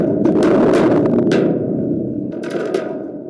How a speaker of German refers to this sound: aber auch eine Minitrommel, aus der eine schmale, lange Stahlfeder ragt. Ja, das ist so ein Donnermacher.